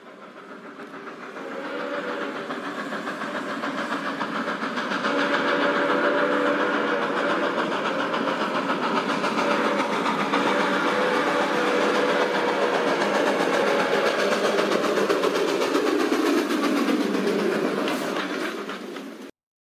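A train rumbles past with a long, sustained whistle blaring over the steady roar, the sound swelling in and then fading out after about twenty seconds. No one speaks.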